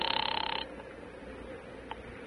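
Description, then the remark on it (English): A telephone bell rings in one short, rapid trilling burst as an operator rings a number, then stops, leaving only a quiet background hiss and a faint click. No one picks up and no voices are heard. “I'm ringing. Well, keep it up.”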